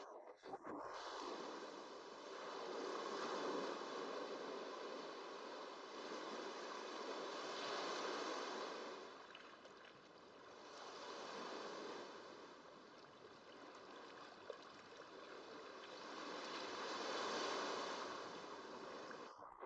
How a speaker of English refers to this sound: The waves caress your stomach and chest.